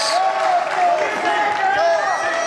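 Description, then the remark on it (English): A large crowd at a political rally applauds and cheers as Tulsi Gabbard takes the podium from Donald Trump, a dense, steady roar of clapping with many voices shouting and whooping over it, loud and unbroken for the whole moment. “But I want you to listen to the crowd and how they react to it.”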